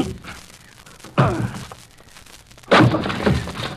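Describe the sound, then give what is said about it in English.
A locked study door is forced open: a heavy thud against it, a short pause, then a second louder blow that bursts into a crashing, splintering clatter as it gives way. “I'm going to break in the door.”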